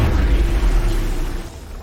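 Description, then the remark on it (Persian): A shot is fired as a heavy, booming explosion that rumbles loud, its deep low roar filling the moment before slowly fading out. No voices are heard. “شلیک بدی بود، حتی از روح دور.”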